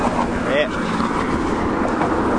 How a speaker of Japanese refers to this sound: 今多分車の音がすごいことになってると思いますが、新御堂南行き、車がビュン通っております。